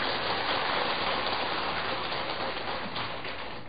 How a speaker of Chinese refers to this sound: 所以我即摆甲邀请来，啊，就是这个原因啊呢，佮甲鼓掌一下呢。